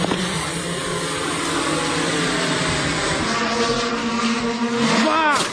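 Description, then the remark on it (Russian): A steady, loud engine buzz from a small drone's motor drones on continuously, then its pitch sweeps sharply upward near the end as it revs for launch. The drone launch was filmed five years earlier. “Это запуск дрона 5-летней давности.”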